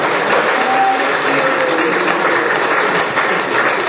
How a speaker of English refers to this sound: And give them a round of applause. Давайте им поаплодируем.